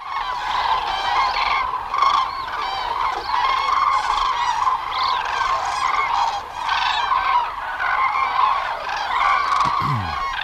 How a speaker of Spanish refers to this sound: Esto es sinónimo de frío, ¿eh? ¿Escuchar a las grullas? ¿Así? Sí. Sí, claro. Sí, sí. Llegan sí, ahora, llevan ya un tiempo, claro, claro. Y se irán en febrero cuando ya empiece a apuntar la primavera.